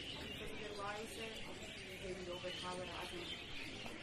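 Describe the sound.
A dense chorus of birds chirps and calls continuously throughout, fairly loud, with indistinct voices murmuring beneath the steady twittering.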